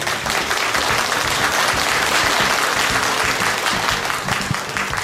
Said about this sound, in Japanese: どうぞ皆様大きな拍手でお迎えください。